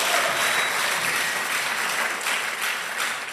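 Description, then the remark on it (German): An audience applauds steadily, a dense wash of many hands clapping at a fairly loud, even level throughout with no voices standing out. “Ein Applaus, das ist ein toller Satz, tolles Zitat.”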